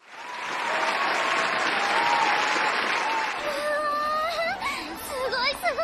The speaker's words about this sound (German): Ja, da erstmal eine Runde Applaus, ne?